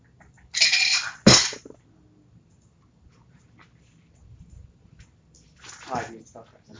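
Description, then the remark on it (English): Three sets of dice are grabbed, rattling and clattering in two short bursts, with a sharp knock between them and a softer rattle a few seconds later, against a quiet background. “I just grabbed like three sets of pretty dice and like, I'm gonna use these three sets.”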